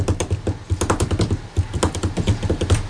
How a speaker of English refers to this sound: Pound? Yeah, the way you pound your keyboard. I know, right? Ang lakas nga, that no? Yung sound eh.